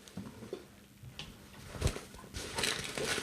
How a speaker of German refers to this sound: Es wird eine richtig geile Tüte gezückt. Es ist eine Bäckereitüte.